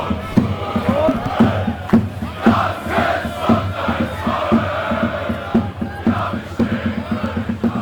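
A football stadium crowd of thousands roars and cheers continuously during a weekend match, a dense wash of voices with rhythmic chanting swells and sharp shouts rising above the steady din.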